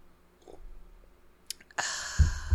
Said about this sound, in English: Let me just take a sip of my 13% wine.